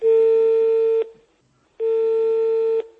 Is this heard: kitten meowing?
no